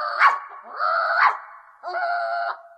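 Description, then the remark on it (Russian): A small dog gives sharp, high yips that slide into drawn-out whimpering whines, three bursts in quick succession, fairly loud with no talking. “Слышишь, сюда бежит фарфоровая собачка.”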